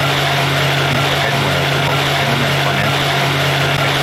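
A loud boat engine runs steadily throughout, a constant droning rumble with a broad roar on top and no change in pitch or pace.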